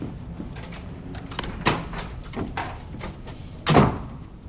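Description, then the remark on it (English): A door bangs open with a sharp thud as a man bursts into a room where a woman lies on the bed, after a lighter knock and some shuffling clatter earlier. No one speaks. “Alice is lying lethargically on the bed when Dan bursts into their room.”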